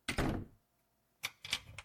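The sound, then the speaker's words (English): A door thuds shut, followed after a short pause by a quick series of three sharp clicks as the lock is turned. No one speaks. “Lock my door, will you?”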